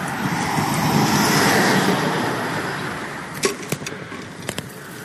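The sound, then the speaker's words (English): Steady roar of road traffic as vehicles pass by, swelling and then easing, with a few sharp clicks and rattles near the end, heard while riding a borrowed Bike Friday bicycle on Clinton Street. “So as to avoid the noisiest traffic.”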